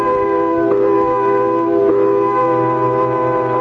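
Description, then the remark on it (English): A factory quitting-time whistle blares in one long, unbroken blast, a loud, steady, reedy tone thick with overtones that holds its pitch throughout with no voices. “Came quitting time, there was a whistle. Loud enough to buckle your knees and send waves up your spine.”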